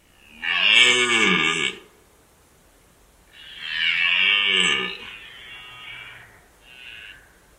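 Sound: red deer stags bellowing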